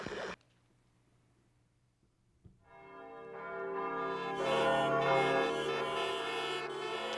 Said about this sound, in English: I'm speaking to you from the roof of Broadcast Building, New York City. The bells you hear ringing are to warn the people to evacuate the city as the Martians approach.